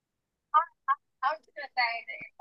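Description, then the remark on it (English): A mobile phone rings during a board meeting with a quick, chirpy melodic ringtone: a handful of bright, warbling tones in an uneven rhythm, fairly quiet and heard alone without any talking. “sorry, my phone is ringing.”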